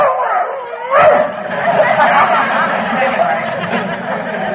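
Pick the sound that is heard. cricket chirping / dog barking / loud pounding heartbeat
dog barking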